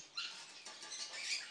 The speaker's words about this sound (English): Ooh, a mouse.